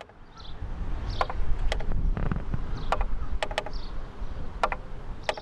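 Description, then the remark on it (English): A mechanical art cart labeled Enviro Fountain, a peddler's cart displaying plants, mosses and grasses at the Arts and Nature Festival, ticks with sharp, crisp clicks, about nine in irregular succession, some in quick pairs, over a steady low rumble. No one speaks. “And the cart, it made a ticking sound.”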